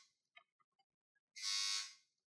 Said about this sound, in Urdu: یہ buzzer round. تو آپ دونوں ٹیمیں اس راؤنڈ کے لیے تیار ہیں؟ جی جی. آپ دونوں ٹیمیں اپنی بزر چیک کر لیں.